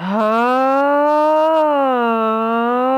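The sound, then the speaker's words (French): A single voice imitates a fire engine siren as a gentle vocal exercise on the sound 'A', with one long, steady, loud sung tone that glides slowly upward, then dips and levels off over about three seconds. “comme la sirène des pompiers.”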